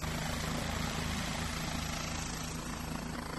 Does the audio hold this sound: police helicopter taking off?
yes